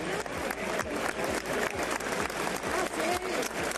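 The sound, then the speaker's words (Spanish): A large crowd in Seville applauds steadily as it welcomes the former king Juan Carlos at the packed Maestranza bullring, dense clapping filling the space with scattered cheers and voices rising through it, loud and continuous from start to finish. “Juan Carlos ha sido recibido en Sevilla con aplausos y vítores.”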